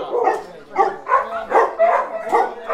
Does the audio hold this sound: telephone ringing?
no